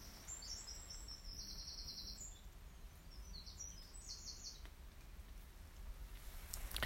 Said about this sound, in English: So the birds are singing, but it's sort of deep within the woodland that they're singing.